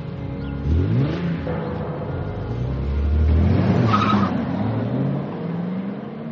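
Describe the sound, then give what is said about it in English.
A red sports car's engine revs hard and accelerates away as a kidnapper speeds off with a young girl inside, tires squealing and skidding on the pavement, the rising engine whine swelling loudly then carrying off. No one speaks. “The kidnapper forced the young sister into the family's car and sped off.”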